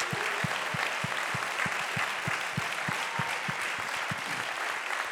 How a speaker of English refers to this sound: And I want us to give them a wonderful round of applause. Y quiero que le dé palmas a todos estos que ayudaron.